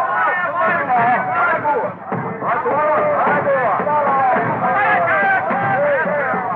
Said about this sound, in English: A few weeks later, in Africa, Henry Stanley and his company march into a native village and are hailed by excited tribesmen.